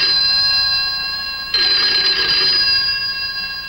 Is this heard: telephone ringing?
yes